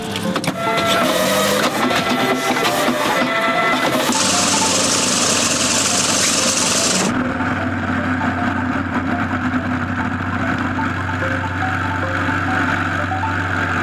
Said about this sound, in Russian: Высота под 200 метров. Полет проходит нормально. Як-18С облетает город и его окрестности.